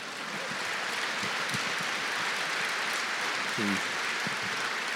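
A crowd applauds steadily and fairly loudly for the whole stretch, a dense wash of many hands clapping, with a brief voice surfacing near the end.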